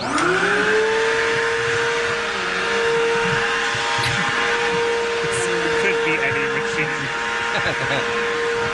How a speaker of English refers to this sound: Is this a leaf blower? No. No, it actually is the opposite. It's a vacuum cleaner.